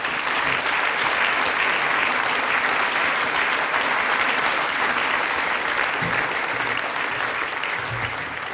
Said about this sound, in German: und heute natürlich einen ganz, ganz schönen musikalischen Abend mit einem großen Applaus.